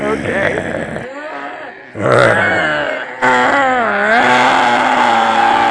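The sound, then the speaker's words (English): Four people growl together in rough, low guttural rumbles, loud and sustained, with overlapping wavering tones that break off briefly twice before the group resumes growling. “We're going to have four people growling together.”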